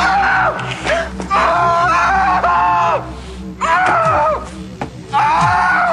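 man screaming and groaning

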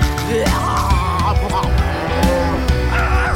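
cow mooing

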